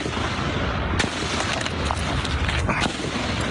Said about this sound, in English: When the piercing sound of gunfire shattered the peace of their morning practice in Alexandria, Virginia.